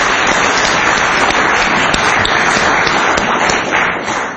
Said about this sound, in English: Wow, well done, Ian. Let's give Ian a round of applause for an encouraging message.